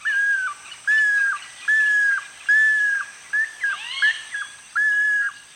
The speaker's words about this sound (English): All parents share the duties of incubating and raising the young, perhaps prompting much groove-billed Ani communication.